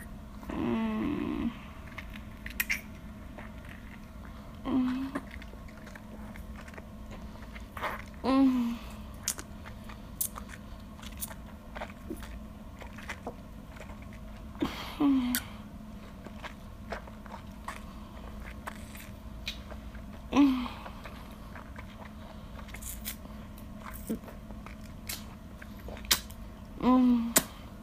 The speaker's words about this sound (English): How's that? You like the feeling of my soft, glossy lips slurping on the stick?